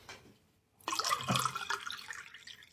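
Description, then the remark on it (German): Egg liqueur being poured into a glass at an Easter gathering, a steady gurgling trickle with faint clinks that starts abruptly after a brief quiet moment and keeps flowing to the end. “Komm hier, ich gieße mal einen Eierlikör ein.”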